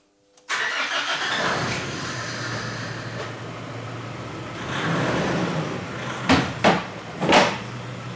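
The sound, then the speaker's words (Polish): A car engine in a garage is started after its battery is connected; it cranks and catches suddenly, then settles into a steady idle with a brief rev, followed by a few sharp clunks near the end. “Podłączyliśmy akumulator i odpalimy silnik.”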